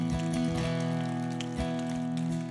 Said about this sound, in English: We're applauding you, and we're applauding what God is doing in you.